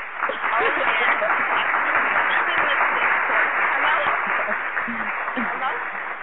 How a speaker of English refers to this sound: Is that my applause? Yeah, that's your applause. That was for you.